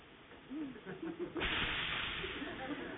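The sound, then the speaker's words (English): A person briefly speaks, then a voice lets out a long, loud, breathy hiss imitating a snake, lasting over a second with some voiced murmuring mixed in. “Did you do this? Snake. Snake?”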